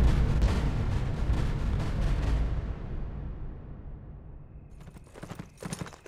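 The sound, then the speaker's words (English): A ridden horse's hooves clip-clop along a trail in a steady, loud rhythm that fades away, then a few more hoofbeats return near the end. No one speaks. “Then, mounted and ready, he had taken the trail of the white man who butchered women.”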